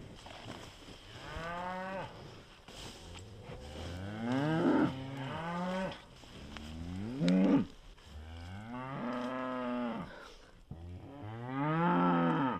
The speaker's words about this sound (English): So you can probably hear the cows behind us,